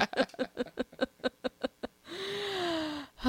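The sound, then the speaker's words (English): A person having trouble breathing gasps for air: a rapid run of about a dozen short, voiced gasps in quick rhythm, then one long, drawn-out wheezing breath that slides downward in pitch, fairly loud, with no talking. “It may sound like I'm sighing deep, but I'm actually gasping for air.”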